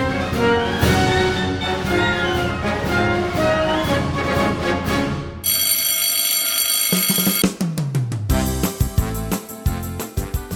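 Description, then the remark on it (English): A loud, continuous school dismissal bell rings for a couple of seconds, cutting in between stretches of brassy Sousa march music that plays before and after it. No one speaks. “Well, kids, the dismissal bell is ringing”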